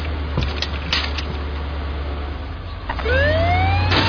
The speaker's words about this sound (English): Hey, what's up with the ambulance?